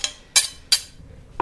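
Three short, sharp metallic scrapes against a dish, spaced about a third of a second apart, with no talking, as a clove of garlic is pressed with a garlic press and the remnants scraped into the dish.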